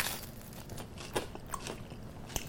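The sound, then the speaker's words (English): Crunchy bites and chewing of crisp, oily bread, with several sharp crackling crunches scattered over a couple of seconds amid softer mouth noises, no talking. “See, when I say oily bread crunch, I don't really know how to describe it, but...”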